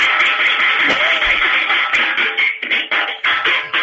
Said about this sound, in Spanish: ¿Puede hacer usted una especie de redoble de batería con la cacerola para ver cómo queda?